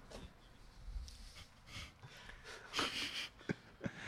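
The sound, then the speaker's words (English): Nose blowing, with a series of breathy, snorting bursts: a longer forceful blow in the middle, then a couple of short sharp puffs. No one speaks. “I'm going to mute my microphone and blow my nose.”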